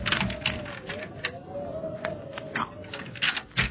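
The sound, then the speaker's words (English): A key scrapes and turns in a lock, with a series of sharp metallic clicks and rattles over a faint steady hum, no voices. “Oh, here we are. This key fits.”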